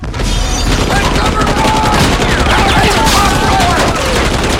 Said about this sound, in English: The flames ignite boxes of bullets.